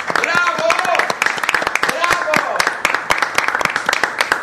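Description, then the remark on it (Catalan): Loud studio audience applause in RAC1's central studio at the Colònies de Ràdio, welcoming the station's regular presenters, a dense crowd of claps rattling steadily for several seconds, with voices faintly cheering underneath. “Avui, des de l'estudi central de les colònies de ràdio amb RAC1, rebrem amb un fort aplaudiment els nostres locutors habituals.”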